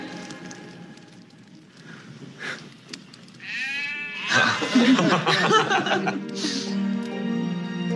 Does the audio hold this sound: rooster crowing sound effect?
no